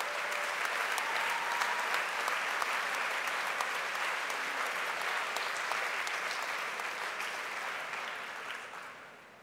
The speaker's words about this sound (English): Well-earned applause.